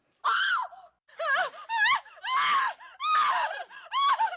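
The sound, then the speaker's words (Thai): A series of about seven loud, high-pitched human screams, each short and wavering with harsh, warbling tones, separated by brief pauses. No speech is heard. “และด้วยเหตุนี้นักวิจัยจึงบอกว่าโดยสรุปแล้วเสียงหวีดร้องของคนเราไม่ใช่เรื่องของการประกาศหรือการเตือนว่ามีภัยอันตรายมาอยู่ใกล้แต่เป็นการส่งสัญญาณขอความช่วยเหลือว่าผมนั้นกำลังตกอยู่ในอันตรายผมต้องการความช่วยเหลือและช่วยให้ผมหลุดพ้นจากที่นี่ไปเสียทีครับ”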